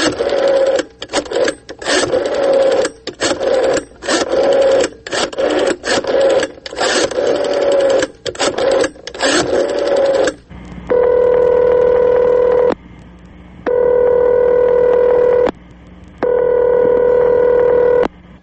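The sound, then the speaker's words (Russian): A telephone being dialed from a radio studio to call an interviewee, with a rapid string of clicking pulses and buzzy tones for about ten seconds, followed by three long, steady ringing tones separated by short pauses. No one speaks. “И мы договорились, что я позвоню ему сегодня по телефону, и он ответит на мои вопросы прямо по телефону сюда, в студию. Что я сейчас и сделаю.”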